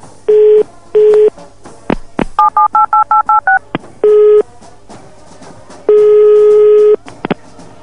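A rapid run of about seven telephone keypad beeps, close and clear, framed by a few handset clicks and longer single phone tones before and after. No one speaks.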